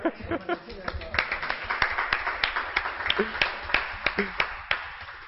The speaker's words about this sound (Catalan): Vots a favor? 13 vots a favor. Unanimitat. Faltat només l'aplaudiment, eh? Ha faltat.